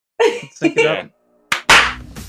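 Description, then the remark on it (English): Voices come first, then a couple of sharp hand claps land in quick succession, loud and bright, the second smacking burst ringing out a little longer. “Is this where we all clap?”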